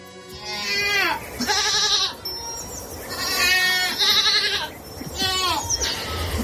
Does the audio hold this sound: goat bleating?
yes